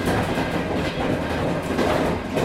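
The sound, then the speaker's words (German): A train rumbles steadily along the rails, its wagons clattering in a dense, continuous roar with faint rhythmic clicks, and no one speaks. “Nach dem Mauerfall ging es dann mit dem Zug über Budapest nach Griechenland.”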